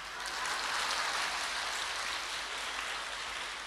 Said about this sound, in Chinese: 鼓掌。